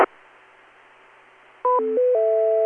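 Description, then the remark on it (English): A short sequence of electronic radio repeater courtesy-tone beeps stepping between pitches, ending on a sustained two-tone chord, follows a stretch of faint radio hiss; clear and fairly loud with no talking. The repeater is linked to IRLP and Echolink during a technical net. “I'm not quite sure what you mean by the bizarre sound, other than the courtesy tones”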